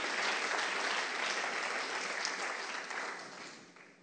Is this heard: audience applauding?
yes